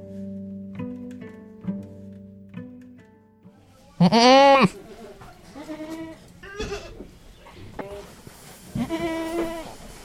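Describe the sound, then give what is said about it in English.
Several goats at a goat auction in North Carolina bleat loudly, their wavering cries overlapping in short bursts over a low background hum, with one especially loud bleat standing out midway. “Here's Goat Auction in North Carolina, produced by Alex Blair.”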